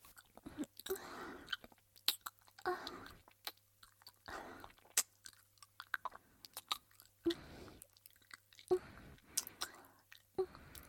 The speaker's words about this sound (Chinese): 没事儿，你要吃哪个和阿姨说，阿姨嚼碎了喂你。这个吗？ 这个鸡肉是吧？好。